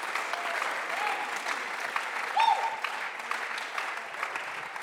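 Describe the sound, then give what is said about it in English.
An audience claps their hands in a steady, dense wash of applause lasting several seconds, with a brief higher tonal whistle or cheer rising out of it midway. “God somebody clap your hands alguien aplaude sus manos.”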